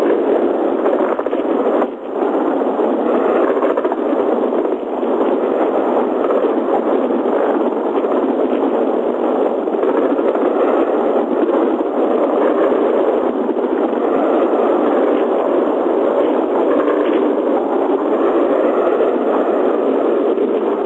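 A continuous, heavy drone of several aircraft engines passing right over a hotel during an air raid, a dense rumbling roar that stays at an even loudness throughout, with a faint thin whine above it and no voices.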